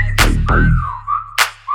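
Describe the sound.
A high, clear whistle slides slowly down and then up over a thumping bass beat, with sharp percussive hits around it and a brief whistle note returning at the end.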